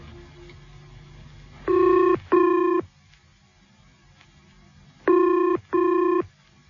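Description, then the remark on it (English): A telephone rings with the classic double-burst pattern, two short rings, a pause, then two more, loud against a faint background hum. “I'm ringing you from Salisbury Station.”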